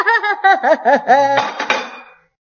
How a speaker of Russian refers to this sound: Мам, ты что? Это ты зачем разбила чашку? Ничего, ничего. Это к счастью.